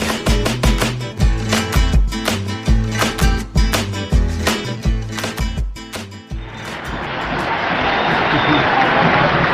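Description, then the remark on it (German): A rhythmic, punchy music jingle plays for several seconds, then gives way to a steady wash of crowd applause that swells slightly and continues, loud and dense, to the end. “Mit einem Applaus werdet ihr empfangen.”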